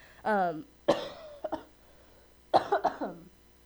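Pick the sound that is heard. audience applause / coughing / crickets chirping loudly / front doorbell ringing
coughing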